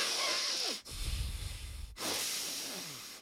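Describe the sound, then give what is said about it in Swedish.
A voice imitates relatives' heavy, snore-like nasal breathing while awake: three loud, raspy breaths in a row, the middle one rumbling lower like a snort, with no talking. “Alltså det låter som att de snarkar i vaket tillstånd.”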